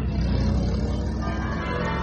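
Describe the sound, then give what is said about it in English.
Church bells ring out in a dense, continuous peal, their overlapping tones fairly loud against a thick wash of background noise, with no voices. “The bells! Mummy! Mummy, the church bells. Can you hear them?”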